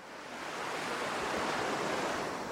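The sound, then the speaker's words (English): Steady wash of ocean surf rolling onto a white sand beach in Port Fourchon, Louisiana, a broad continuous hiss of breaking waves, fairly loud and even throughout with no voices. “In Port Fourchon, Louisiana, there's a white sand beach that stretches for miles.”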